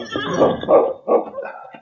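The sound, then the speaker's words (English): Sergeant Preston's horse whinnies at night in Selkirk after being ridden to the constable's office, a loud, shaky call broken into a few wavering pulses that trail off quickly, with no talking over it. “When they arrived in Selkirk, Preston, who had taken his horse aboard with him, rode directly to the constable's office.”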